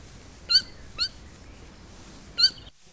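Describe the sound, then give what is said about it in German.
Three short, high-pitched mouse squeaks, two close together and a third after a pause, thin and clear against a quiet background with no talking. “Doch da hörte er ein Piepsen neben sich.”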